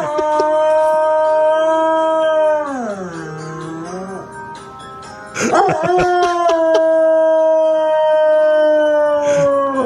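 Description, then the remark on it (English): A hound dog howls loudly along to a TV show's theme music in long, sustained notes, its pitch sagging low midway before rising back into a steady, drawn-out wail that continues to the end. “Odafin is a hound dog”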